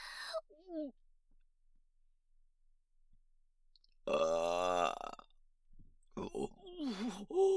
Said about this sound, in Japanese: ザーメンゲップ出てしまいました。熱いザーメンガスがお腹の中を登ってきて、下品なゲップ出してしまいました。